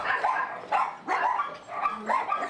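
Puppies bark and yip in quick, overlapping bursts, high-pitched, with a few short whimpering notes mixed in and no pause in the chorus.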